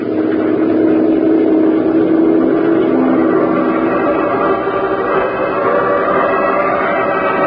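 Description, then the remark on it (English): The engine of a patrol motorboat drones steadily and loudly on the water, a continuous low rumble with a rough, churning texture that holds throughout without pause. “Head for it, patrol boat three. We'll join you there.”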